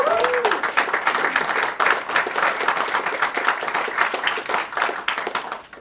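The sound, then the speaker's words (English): Steady, dense applause from a large crowd of local leaders at the launch announcement of a 1 gigabit internet service in Bryan College Station, Texas, with a brief whistle or cheer near the start and clapping sustained at an even loudness throughout. “It wasn't that many years ago, we probably could have got that much cheer for a 10 megabit system service.”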